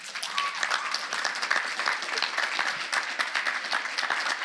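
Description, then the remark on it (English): A church audience at a morning service breaks into sustained applause to tell a young girl she is beautiful, many hands clapping in a dense, steady patter that stays fairly even in loudness throughout, with no one speaking over it. “We're going to embarrass her, but I want you to tell her this morning, by applause, how beautiful this young lady is.”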